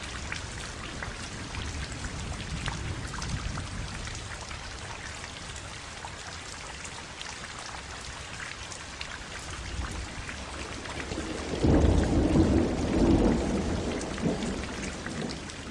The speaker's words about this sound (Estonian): Head kuulajad, tänane looduspilt on olnud teemal vihm.